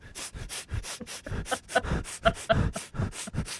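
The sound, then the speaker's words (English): A quick, steady run of short, breathy nasal sniffs, around a dozen or more in under four seconds, each a hissy burst of air with no talking. “Because lots more sniffing.”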